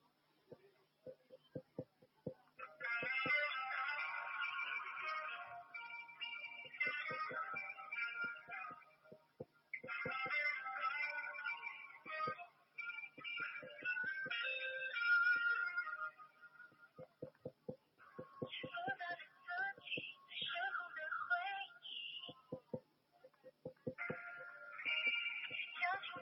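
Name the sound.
phone call ringing unanswered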